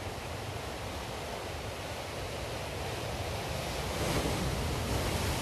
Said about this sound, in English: Listen to the waves.